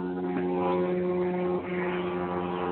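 A propeller airplane drones steadily overhead, heard through a participant's microphone during an online call, a continuous low engine hum with a buzzing tone that holds fairly loud and even throughout, with no voices.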